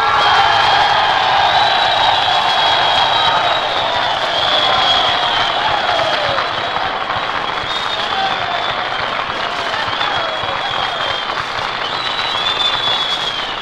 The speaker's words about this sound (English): The men gave you quite an ovation, Major Carl. Yes, Mr. Canner. And they deserve that applause every bit as much as I do.